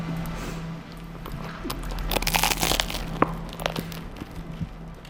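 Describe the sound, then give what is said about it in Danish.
A crunchy bite into a soft bun spread with margarine, followed by a few quieter chewing crunches over a steady low hum, with no one speaking. “nu smører jeg lige en halv bolle ned for Emmys med den her. Er det okay, jeg bare spiser en bid af den ene”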